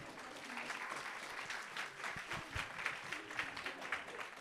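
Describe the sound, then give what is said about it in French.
An audience of about 200 people applauds steadily for the readers of collected testimonies, a dense wash of many hands clapping at once, fairly loud and sustained throughout without any voices standing out. “Donc je vous demande de vraiment les applaudir, pas devant moi.”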